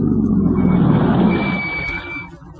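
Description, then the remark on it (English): A car rumbles loudly, then eases off as it slows, with a brief high squeal partway through, and the engine noise settles lower as it comes to a stop at a billboard sign. “Slow down, come to a stop at that billboard sign.”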